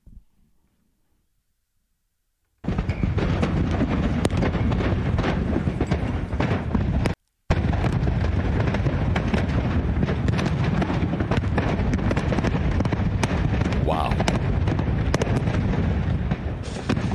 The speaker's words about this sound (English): This is in Clinton Township. It's a town or two over. This is near where Charity Scam Mike lives. He could hear what I'm about to play for you going on. So, I guess the explosions were propane tanks? Like, how many propane tanks do you have?